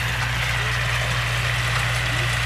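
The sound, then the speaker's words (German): A large tractor with a mowing machine, used for mowing fields, drones steadily, a loud, continuous low rumble with a faint mechanical whir above it and no speech throughout. “Wenn nämlich der grosse Traktor mit der Mähmaschine kommt, springt das Reh nicht weg, weil es die Gefahr sieht, sondern es macht sich im Gegenteil einfach noch kleiner und so kommt es unter die Mähmaschine.”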